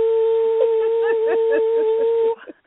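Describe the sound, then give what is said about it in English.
A person howls at Fiona, letting out a long, steady, dog-like howl lasting a couple of seconds, with faint talking underneath, before it cuts off abruptly. “So should I howl at Fiona tonight?”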